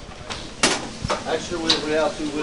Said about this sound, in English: On the other side of the order and pickup windows and the bright neon signage for Gino's steaks, onions and meat sizzle on flat metal grills. We cook them for approximately about a minute because it's very thin.